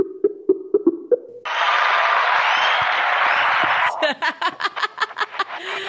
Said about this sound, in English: Wow, it's nice to get a cheer every time I pick up the phone. Apparently your fans are here too. Wow, that is some positive reinforcement.